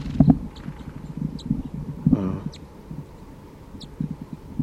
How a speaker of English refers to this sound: And there is a vocalization of a wild bird from the trees here. Sounds like alarm calling.